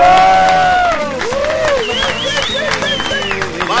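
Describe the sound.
A crowd claps steadily and loudly for a few seconds, with cheering voices and rising, wavering calls over the applause.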